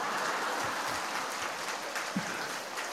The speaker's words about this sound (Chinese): 你们现在知道师父要掌声是这么要来的